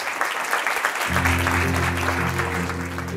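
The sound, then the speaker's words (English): At the end of a Stanford eCorner Entrepreneurial Thought Leader Series talk, a crowd applauds in a dense, steady wash of clapping, and after about a second a sustained musical tone swells in beneath the continuing applause. “Can we give Clara a huge round of applause?”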